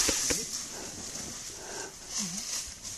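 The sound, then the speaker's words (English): A tiger about 15 to 20 feet away, below people riding an elephant, wheezes in short, breathy rasps, a few soft, fairly quiet exhalations, over a steady hiss of outdoor background noise. “Oh, he's wheezing right now.”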